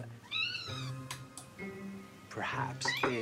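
A domestic cat gives a clear, rising meow, followed by lower, murmuring vocal sounds and a couple of brief, sharper cries near the end.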